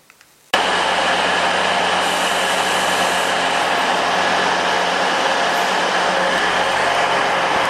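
A diesel train engine idles at a platform at Hull Station, pumping out diesel fumes: a loud, steady drone with a low throbbing hum and a hissing whine that starts abruptly and continues unchanged.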